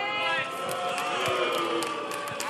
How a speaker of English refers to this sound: What are they booing?